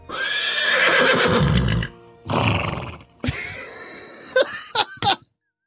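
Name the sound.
horse neighing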